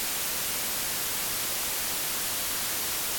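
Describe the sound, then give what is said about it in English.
A steady, unbroken hiss of white noise static fills the whole few seconds, even and fairly quiet, with no voices or other sounds. “And don't miss his previous platinum album, ….”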